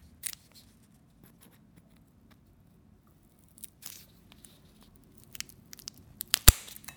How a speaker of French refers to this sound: Alors, écoute, le bruit du couteau, ça, c'est bien.